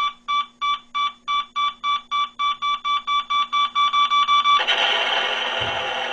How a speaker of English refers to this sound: Or an alarm clock that could be yours, one of several creative variations. For example, there's the exploding dynamite alarm clock.